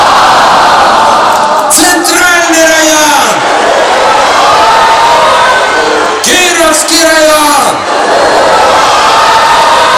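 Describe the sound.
A crowd shouts and cheers at full volume in two separate bursts, each lasting a second or two, in a contest over which district can shout loudest, with the Sovetsky and Leninsky districts shouting. A man's voice calls out between and over them.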